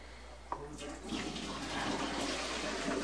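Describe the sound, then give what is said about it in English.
Water is dumped out into a sink, with a brief clunk near the start followed by a broad, rushing splash that grows fuller and continues for a few seconds. “You dump out the water.”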